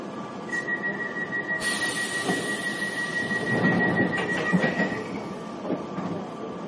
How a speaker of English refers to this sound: This is a Piccadilly line service to Rainers Lane.